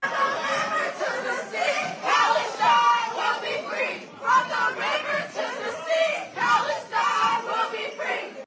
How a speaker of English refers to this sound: And listen to these students. These are high school students in San Francisco shouting to Free Palestine.